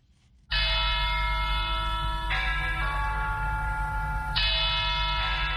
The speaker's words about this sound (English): Church bells ring at Our Lady of Victory's Cathedral in Yaoundé, inviting Catholics to a mass to be said by Metropolitan Archbishop Jean Mbarga.